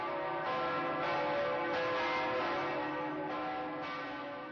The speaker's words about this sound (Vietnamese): Nhà thờ có hai tòa tháp chuông với tổng cộng 6 quả chuông phát ra 6 âm Son, La, Si, Do, Re, Mi. Riêng chuông Son được xem là một trong những quả chuông lớn nhất thế giới hiện nay.